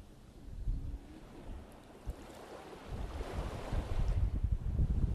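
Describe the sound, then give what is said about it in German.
Sea waves wash onto the white sandy beach of the Prora Wiek at Prora at the start of summer, in sunshine, in a steady, rushing surf, swelling louder toward the end, with gusts of wind buffeting the microphone. No one speaks. “Das Wasser ist noch ein bisschen frisch, aber schon badewürdig. Und die Sonne scheint auf den weißen Sand der Prora Wiek.”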